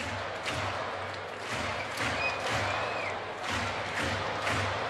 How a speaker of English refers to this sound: Crowd here at Oriole Park putting their hands together, making some noise, trying to encourage Burns through this top of the fifth inning.